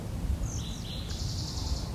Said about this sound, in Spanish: Los pajaritos, el viento.